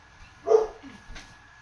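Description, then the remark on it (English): A dog barks twice outdoors from across the street, a sharper first bark followed by a softer second one, heard faintly with no talking. “They're barking at you across the street.”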